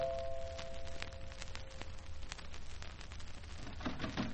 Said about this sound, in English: This meant that someone was coming along the corridor to my flat. Then came the chimes at my door.